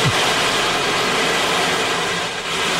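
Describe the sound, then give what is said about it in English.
An ocean wave drum gives off a steady, loud hiss of rolling beads like surf washing in, easing briefly before swelling again, with no voices. “It's the ocean wave drum, and it's very soothing and kind of addictive.”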